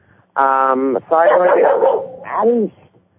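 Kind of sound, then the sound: animal, dog barking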